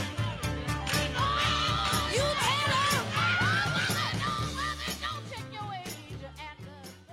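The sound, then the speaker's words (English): A big crowd of Wisconsin fans cheers on the Brew Crew at a baseball game, a loud, sustained roar dotted with whoops and shouted yells over a steady low thumping pulse, tapering slightly toward the end. “As Wisconsin is cheering on the Brew Crew.”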